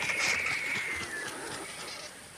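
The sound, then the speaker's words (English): Angry hooded vultures squabble and bash into one another, stretching out their necks as they give harsh, raspy hissing roars that overlap continuously, with a thin high whine running through the noisy, scratchy din. “Now you can see when they really are getting very angry, they stretch out their necks and they just make that horrible hissing roar.”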